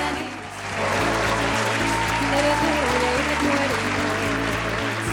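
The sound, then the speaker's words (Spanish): Steady, dense audience applause at the Venezolanismos show fills the whole five seconds, a loud continuous wash of many hands clapping, with low sustained musical tones playing underneath. “Los aplausos para usted.”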